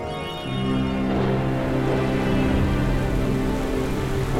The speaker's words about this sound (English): It's a dark and stormy night.